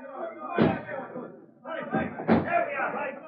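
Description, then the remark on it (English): A door slams shut twice, two loud, sharp bangs about two seconds apart, with muffled voices and movement in the background between them. “Hurry, out the back door.”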